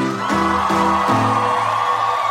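A crowd screams and whoops loudly and continuously, high sustained yells rising and shifting in pitch over a dense wall of cheering noise.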